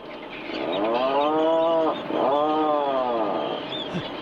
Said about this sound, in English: You're listening to the surprising call of the Atlantic puffin. Yes, that's a bird.